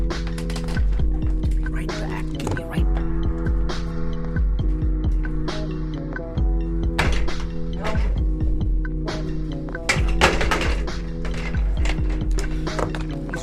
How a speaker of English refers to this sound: Missing a wheel. One of these rolly chairs. I said one of these rolly chairs is missing a wheel. Yeah. I just put it back on. That was that noise.